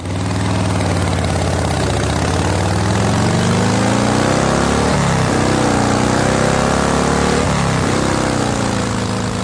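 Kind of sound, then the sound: vehicle, motorcycle engine idling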